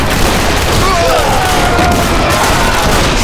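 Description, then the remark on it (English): A dense, loud volley of pistol gunfire from Smoke and Lewis crackles without pause for a few seconds in a muddy street, the shots blurring into one continuous roar of rapid bangs with no voices. “The entire group of men dropped in the hail of gunfire from Smoke and Lewis.”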